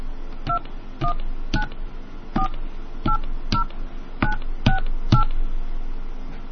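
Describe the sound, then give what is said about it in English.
About nine touch-tone keypad beeps entering a PIN for a phone calling card, short dual-tone presses at an uneven, deliberate pace, fairly loud over a low background hum, with no talking. “Press the star key after entering your PIN to add time using your credit card. Please enter your PIN now.”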